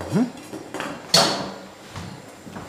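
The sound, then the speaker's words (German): A metal pot lid clatters against a pot as someone lifts it to check the water, which is already boiling, for cooking Spätzle: a sharp bright clang near the middle followed by a few smaller clinks and knocks, with no one speaking. “Also habe ich als erstes das Wasser aufgestellt. Das sollte jetzt gleich mal kochen, weil es ja nicht viel ist. Ich schaue mal rein.”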